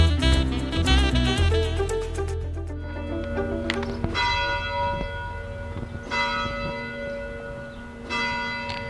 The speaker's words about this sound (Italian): Queste sono le campane della chiesa di Campocologno all'imbocco della Valposchiavo. Ora sono automatiche, ma prima, fino agli anni Ottanta, c'era il campanaro ad azionarle.